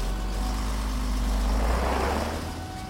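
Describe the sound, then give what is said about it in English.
A moving truck's engine gives a steady, low rumble that holds for a few seconds, then begins to fade slightly as the vehicle pulls away. No voices. “The movers drive away.”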